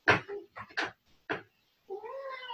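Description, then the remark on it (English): A cat meows, a few short, broken calls followed by a longer rising, drawn-out meow with clear harmonic tones. “The cat's feeling it.”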